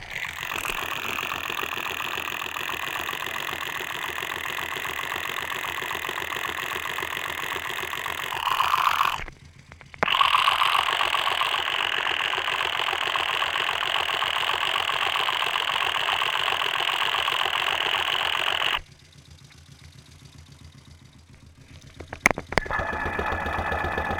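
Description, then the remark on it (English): Steady churning and gurgling of oil circulating through a spinning cylindrical engine oil filter, a dense whirring texture that briefly cuts out, resumes, then drops to a quieter background hum with a few clicks. “That's a sort of nice, juicy, gurgling sound. It's over by the oil filter, which is a spinning cylinder.”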